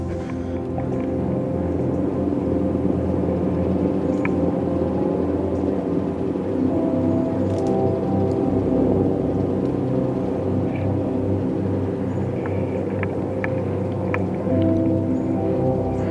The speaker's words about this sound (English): Oh, listen to that chopper.